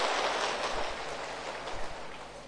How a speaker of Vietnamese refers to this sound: Xin quý vị cho một tràng pháo tay để đến với phần trả lời của Thầy.